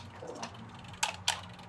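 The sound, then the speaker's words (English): A mechanical kitchen timer being wound for about 10 minutes while a pie goes into a 425 oven, giving a couple of sharp ratcheting clicks after a softer mechanical rustle, over a steady low hum. “Timer on.”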